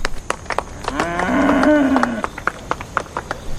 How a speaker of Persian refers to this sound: هی میشه لطفا گاوا رو ساکت کنین؟ ممنونم.